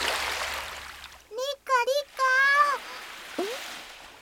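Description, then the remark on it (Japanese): A rush of splashing seawater as people play in the sea fills the first second, then gives way to a few bright, excited voice exclamations, with one short cry near the end. “ちょっと、ご主人様までびしょびしょにするなんて。やり返して差し上げましょう。”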